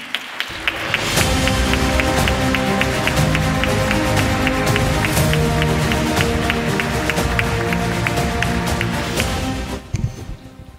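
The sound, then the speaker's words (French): An audience breaks into steady applause for Pierluigi Locchi, a dense wash of many hands clapping that rises quickly, holds evenly for about nine seconds, then fades out abruptly. “Je vous demande d'applaudir Pierluigi Locchi.”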